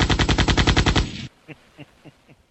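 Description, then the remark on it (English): A loud, rapid burst of submachine gun fire, about ten evenly spaced shots in a second, cuts off abruptly and leaves faint scattered clicks and thuds trailing afterward. “Yeah, but you know, if you watch The Adventures of Robin Hood with Errol Flynn, he does use a submachine gun.”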